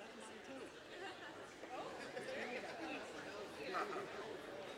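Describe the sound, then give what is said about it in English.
A crowd of audience members chatting among themselves all at once, telling each other their favorite Christmas movies: a steady overlapping babble of many voices with no single speaker standing out, holding at an even, moderate level throughout. “But just turn to whoever's around you and just tell them your favorite Christmas movie, okay?”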